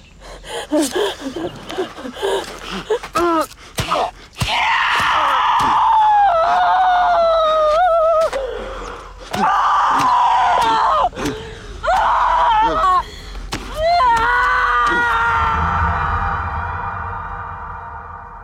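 Reenacted loud, high-pitched screams of a woman in several drawn-out, wavering bursts, mixed with gasps, a man's lower groans muffled by a blanket and sharp thumping hits as the Zodiac killer stabs him, with no talking.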